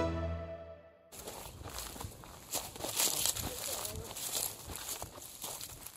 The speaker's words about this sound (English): The ground is dry, the leaves are rustling.